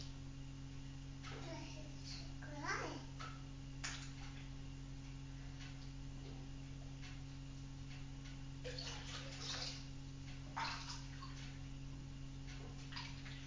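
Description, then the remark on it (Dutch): Warm water sloshes and splashes in a bathtub in short bursts over a steady low hum, with a brief babbling child's voice rising over the splashing near the start. “Het water is warm.”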